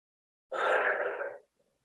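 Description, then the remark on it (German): A single loud, breathy exhale lasting about a second, after a deep inhale in a breathing exercise, heard alone, with no talking, fading out at the end. “Gehen dann nochmal wieder runter, atmen richtig laut aus.”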